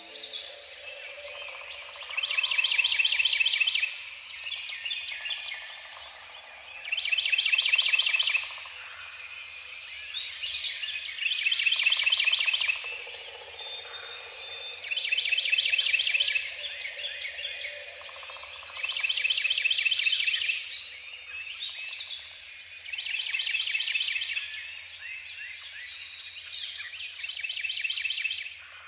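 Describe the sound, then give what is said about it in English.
Outdoors, birds sing in repeated bright bursts every few seconds, rising and fading, over a steady thin background of chirps and insect buzz. No voices. “Through a meditative practice, I can relive successes, be inspired with new ideas, and allow the musics of the soundscape, birds, insects, and winds, to dissolve my disquiet and focus my pedagogy on that which, to me, matters most.”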